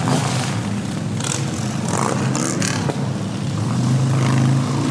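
A motorcycle engine rumbles loudly and steadily, its pitch climbing as it revs near the end, with no voices over it.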